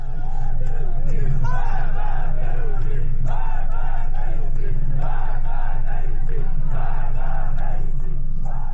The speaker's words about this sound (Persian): در ویدیوهایی که در شبکه‌های اجتماعی از این اعتراض‌ها منتشر شده، معترضان از جمله شعار مرگ بر گرانی، مرگ بر رئیسی و مرگ بر خامنه‌ای سر می‌دهند.